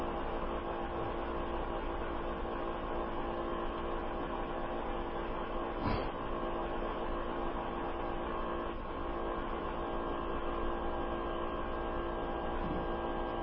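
A steady mechanical whir and hiss of compressed-air typesetting keyboards runs throughout, with a brief sharper clack near the middle and faint irregular ticks, no voices.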